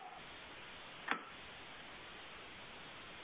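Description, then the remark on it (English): A single sharp clock tick snaps out once over a steady background hiss, with no repeat and no voices. “The clock is ticking.”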